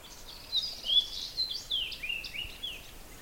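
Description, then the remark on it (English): A fox sparrow's whistled song: a quick run of clear, sliding whistled notes, fairly faint and a little distant, with no voices over it. “But that dee dee dee dee dee dee dee, that's a fox sparrow. It's kind of a whistle song.”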